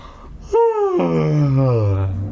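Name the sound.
exaggerated yawn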